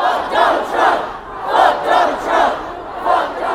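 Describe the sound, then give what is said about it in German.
A large crowd of protesters at a street demonstration shouts in unison, rhythmic chant bursts rising and falling about every half second to second, loud and continuous with no single voice standing out. “Sich ordentlich den Frust von der Seele schreien, das hilft schon mal ein bisschen.”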